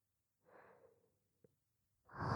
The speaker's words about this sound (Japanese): じゃあ、お耳にも吐息かけてあげますから、それで気持ちよくなってください。